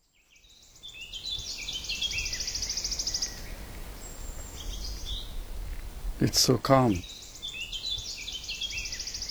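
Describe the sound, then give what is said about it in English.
Birds sing and chirp steadily in a quiet outdoor setting, their bright, busy calls layered over a soft ambient hush, with a brief spoken voice partway through. “You can only hear the birds.”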